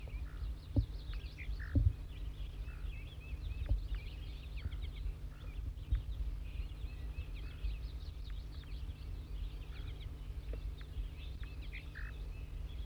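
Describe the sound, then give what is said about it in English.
A brown wild bird, a female or juvenile, perched in Servsbury, repeats short, high, buzzy zezer notes at irregular intervals throughout, fairly faint, over a steady low rumbling hum with a few soft thumps and no talking. “That 4-3 is getting zezer notes.”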